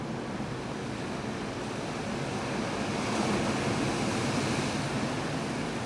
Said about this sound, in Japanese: こんな波音がね、部屋から聞こえるんですよ。